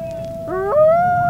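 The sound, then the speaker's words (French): Several long, wavering howls overlap in a chorus, one steady tone joined by rising voices partway through, like a wolf pack howling together with no talking. “Il y voit des loups en meute, des loups dans la forêt.”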